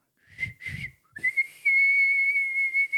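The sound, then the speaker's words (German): A person whistles close to the microphone to call a horse: two short, breathy bursts, then a long, steady, high-pitched whistle held to the end, with no talking. “Er pfeift auf jeden Fall mal, ne?”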